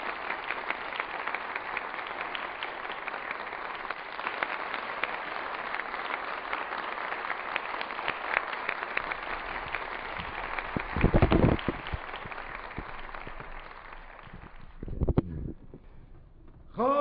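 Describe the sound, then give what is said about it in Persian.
A crowd at a graduation ceremony applauds a student's family with dense, steady clapping that holds for about fourteen seconds, then thins out and fades, with a couple of brief louder bursts near the end. “لطفاً تشویق بفرمایید”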